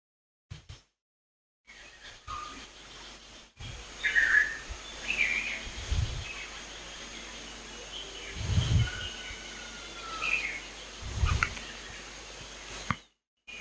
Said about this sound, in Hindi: वापस सारा ध्यान पक्षियों की आवाज की तरफ,